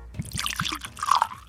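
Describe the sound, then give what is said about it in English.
Dubstep-aged whiskey is poured into a glass, a brief gurgling splash with a few quick glugs and drips over about a second, no voices. “let me pour you some.”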